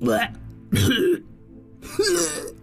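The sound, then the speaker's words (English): A creature, the Phoenix Taco, hacks and retches as if coughing up a hairball, bringing up a little golden globe: three harsh, throaty bursts separated by short pauses, fairly loud, performed by a voice. “Can't you see the poor things coughing up a hairball?”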